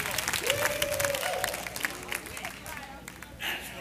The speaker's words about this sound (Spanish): Dense ustedes un aplauso.